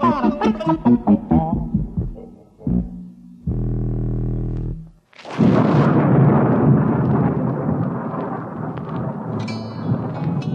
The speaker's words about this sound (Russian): Однажды вечером разыгралась страшная непогода. Гремел гром, сверкала молния, дождь лил, как из ведра. Ужас, что было.